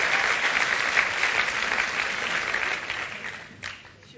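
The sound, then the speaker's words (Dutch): Warm audience applause for a woman of nearly 70 invited to the front to give a testimony, a dense steady patter of many hands clapping at an even level before tapering slightly toward the end. “Hartelijk applaus voor”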